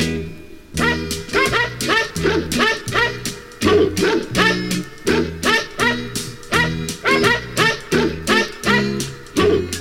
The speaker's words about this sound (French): Bonjour. Par l'intermédiaire de ce disque, c'est un petit chien qui vous parle.